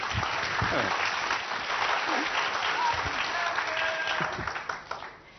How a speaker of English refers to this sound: Round of applause! That's not good enough, you can clap better.